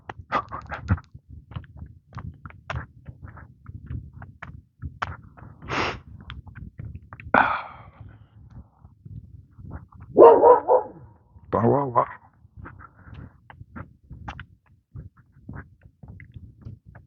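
An old dog lets out a few gruff barks mixed with snorting huffs, spaced irregularly, over a low steady background rumble.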